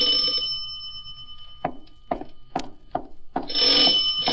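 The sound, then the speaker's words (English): A shrill doorbell at the front door rings insistently, breaks off for a run of five sharp, evenly spaced bangs on the door, then starts ringing again, loud and continuous. No one speaks. “You want to bust the door down?”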